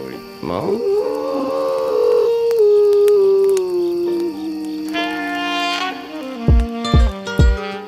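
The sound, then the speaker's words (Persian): A wolf pup howls: one long, high call that swoops up, then slowly sinks over several seconds. Other tones follow, and three low thumps land near the end. “بعضی وقتا زوزه کشیدن یه بچه گرگ فرکانسش از صدای بعضی آدم ها بالاتره.”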